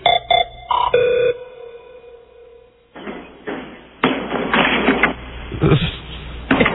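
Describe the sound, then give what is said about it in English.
Over a thin, telephone-quality line, a few electronic beeps and a held tone give way to a loud, rushing whoosh of noise that surges and swells for several seconds. “Here's another just unscreened where they're going to hear the whoosh.”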